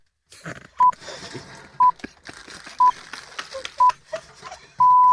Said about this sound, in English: Why are the pips getting you? Every time. Okay. All right. I'll just ignore that bit. Just ignore the pips. Just some pips on Radio 4.